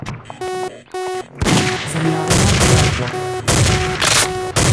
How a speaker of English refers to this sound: Semi-automatic rifle.